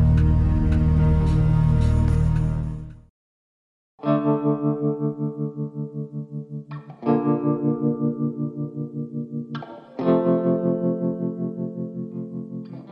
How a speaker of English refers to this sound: This is a catchy tune, man. I'm going to be humming this all day long. Dang, this is taking me through the weekend. This is getting me through the weekend, baby.